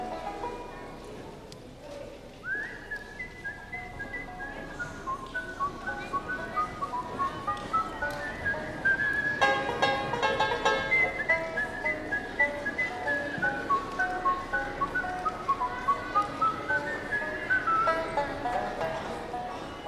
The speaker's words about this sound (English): Once upon a time, there was a farmer walking down the road. He was whistling this tune to himself. But he scratched his head and says, "Doggone, I wish I had some words to that song. All I got is the tune."